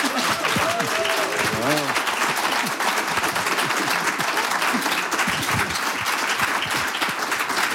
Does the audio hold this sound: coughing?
no